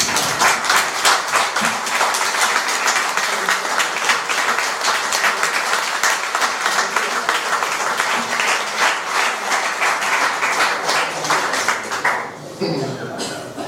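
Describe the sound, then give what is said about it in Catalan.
A crowd applauds a man just introduced by the speaker, in a dense, steady wash of clapping that holds at an even loudness for about twelve seconds, then drops off quickly into near silence. “i demano un aplaudiment.”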